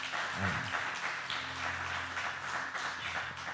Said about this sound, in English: Well, let's just give the Lord a hand clap of praise this morning.